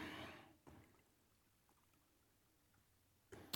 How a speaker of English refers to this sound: Let me pour some water real quick here.